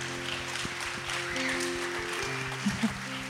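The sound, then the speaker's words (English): Steady applause from an audience for a youth Bible verse quiz team, a dense wash of many hands clapping at an even level throughout, with a low background hum underneath. “So if we could give them a round of applause, that'd be great.”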